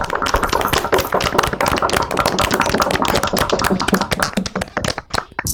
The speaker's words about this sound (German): zunächst einmal möchte ich uns allen Applaus wünschen zu dem, was wir gerade gemacht haben. Ich fand das schon sehr gut. Also insofern gerade nochmal wieder alle Mikrofone an und klopfen oder klatschen, dass wir dann uns selber einen Applaus geben.